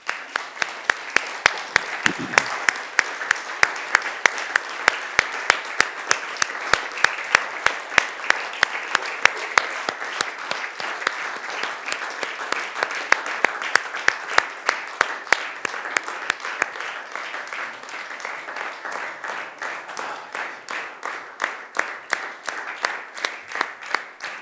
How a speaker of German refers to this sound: Und ich möchte, dass wir zum Abschluss aufstehen und unseren König empfangen mit einem Applaus. Jetzt gerade hier. Das ist unser Weihnachtsapplaus für unseren König.